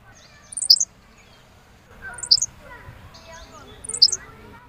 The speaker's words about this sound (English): This is the Henslow sparrow. It's a hiccup is the best way you can describe it. Okay. So when you're walking through tall grasses, and there's these little birds that like to hide in the grass, right, you're basically listening for a hiccup.